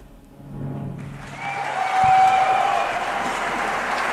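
Applause from a group at the end of an interview swells in after a low murmur, becoming a steady, dense wash of clapping that holds at moderate loudness to the end, with a faint whistle-like tone briefly over it.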